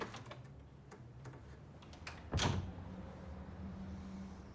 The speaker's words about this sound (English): Glancing round suspiciously, he shuts his bedroom door.